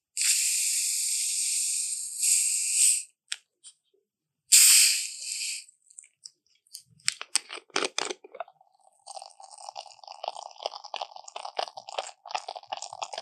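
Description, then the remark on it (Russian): A Coca-Cola bottle hisses open with a loud burst of gas, followed by crackling fizz and the steady bubbling of the carbonated soda, clear with no voices. “то есть вот этот вот звук, который Кока-Кола практически сделала своим фирменным, когда мы слышим это шипение и звук открывания бутылочки, то есть это практически на уровне вот ДНК их бренда.”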